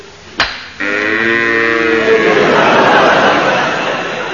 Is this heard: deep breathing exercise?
no